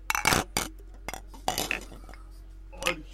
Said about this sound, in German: Wir sollten anstoßen. Wir machen noch so einen coolen Soundeffekt. Moment.